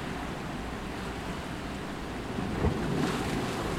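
Steady outdoor wash of wind and moving water on the bank of the Dam Shui river, where it meets the sea among mangroves in Dam Shui district at the edges of Taipei. A broad constant rumble with a slight swell in loudness near the end, no voices.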